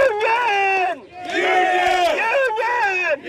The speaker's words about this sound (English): Roberts led an estimated 2,000 miners from three states in pro-union cheers, starting in the bed of that truck all the way up the street to Patriot's front door.